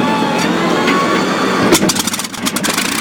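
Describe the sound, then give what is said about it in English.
A Packard-built Merlin aircraft engine starting up, loud: a steady whirring crank as the huge propellers begin to rotate gives way to sharp, irregular exhaust barks from the manifolds as it catches and sputters into a rough, pulsing, thunderous roar. “In moments, the Packard-built Merlin engine came to life with a thunderous roar.”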